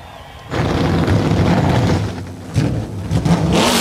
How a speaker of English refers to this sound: 38 Xfinity Series engines come to life down on pit road. Coming up is the United Rentals 250. It's next right here on the Motor Racing Network.